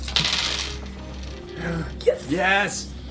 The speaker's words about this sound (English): And it is a six. Pick another die and roll it again and get a six.